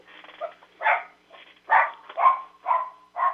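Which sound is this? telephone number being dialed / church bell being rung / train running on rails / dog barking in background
dog barking in background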